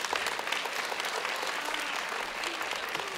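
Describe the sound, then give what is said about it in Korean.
An audience claps steadily to welcome a tenor onto the stage for a duet, a dense, even wash of many hands that holds at a fairly loud level throughout without pausing or building. “박수로 맞아주시면 감사하겠습니다”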